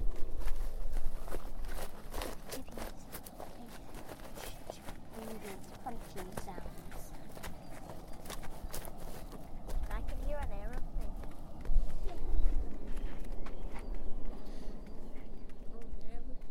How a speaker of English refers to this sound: I'm putting my foot on little pieces of wood, of cut up wood.